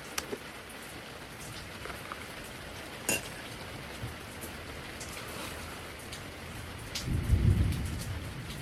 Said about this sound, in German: Ich hab bloß gedacht, es gewittert. Schmeißt mal eben die Aufnahme an.